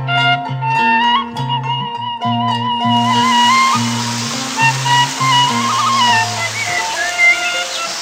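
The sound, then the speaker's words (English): A few seconds of melodic music give way to the steady rush of a small river flowing beside a bamboo gazebo and a dam in Ciglap village, Indonesia. The river is loud and continuous to the end, with faint musical tones lingering underneath. “The atmosphere is seen not only in the classroom, but also in a bamboo saung or gazebo situated beside a small river and a dam.”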